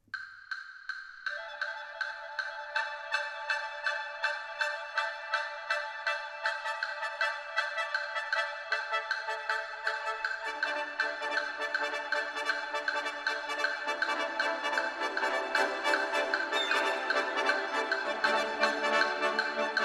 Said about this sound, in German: Und ein amerikanischer Komponist, der hat ein Stück geschrieben für so eine ganz schnelle Maschine. Und das hören wir uns jetzt mal an, dieses Stück.